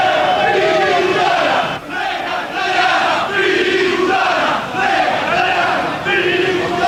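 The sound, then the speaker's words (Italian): A large crowd of angry Lazio football fans blocking a street shouts and chants in protest over the previous Sunday's events and the likely lost league title, a loud, dense roar of many voices swelling in repeated rhythmic waves with brief dips between chants. “il traffico è impazzito, c'è il blocco dei tifosi laziali inferociti che protestano per quello che è successo domenica scorsa e per il fatto che probabilmente lo scudetto è sfuggito di mano ai biancozzurri.”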